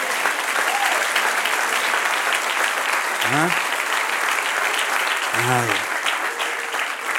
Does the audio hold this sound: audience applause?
yes